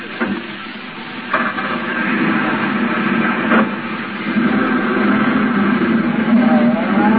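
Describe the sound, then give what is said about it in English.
A taxi's engine revs and pulls away to follow a gray sedan, a steady rumbling drone that grows slightly louder and rises in pitch over several seconds, with a hissy noisy background and no talking. “Hey, taxi. Cab, sir? Yeah, that gray sedan with the chauffeur. Follow it.”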